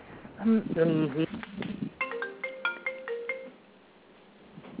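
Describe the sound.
A voice talks briefly, then a doorbell chime plays through a phone: a quick run of clear electronic tones stepping in pitch, thin and moderately loud, fading into quiet.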